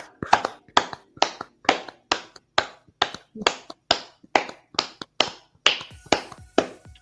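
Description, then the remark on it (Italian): Hands clapping in a slow, steady rhythm, roughly two sharp claps per second for several seconds, fairly loud, a small round of applause for the viewers at one in the morning during a live broadcast, with no voices. “Ma arrivati a questo punto direi che c'è da fare anche un'altra cosa, visto che sono l'una di notte, glielo vogliamo fare un bel applauso ai nostri spettatori?”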